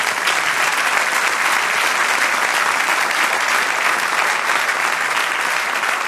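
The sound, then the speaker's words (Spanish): An audience breaks into sustained applause for the Lord during a sermon, a dense, steady wash of many hands clapping at once with no break for the full six seconds, fairly loud and with no one speaking over it. “Aleluya, dale otro aplauso al Señor.”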